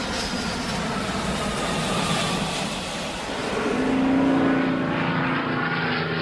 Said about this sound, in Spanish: Avioneta, mirá. Ay, esta, qué lindo. Esta puede pasar por la playa. Sí. Poniendo carteles sobre los lugares que podemos visitar en ese lugar.